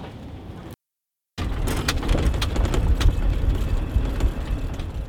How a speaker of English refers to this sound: But you can definitely hear the wind, though. And it gets cold out here.